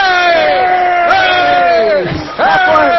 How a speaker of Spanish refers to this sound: ¡Momento! ¡Vamos a gritar todos para que se despierte!